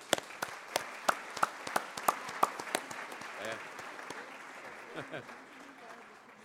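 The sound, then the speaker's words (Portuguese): A round of applause from a small group welcoming the Coral de Libras Mãos Fortes, a sign-language choir from the NGO A da Vida, crisp claps falling into a loose steady rhythm before thinning out and fading, with faint murmuring voices underneath. “Salva de palmas.”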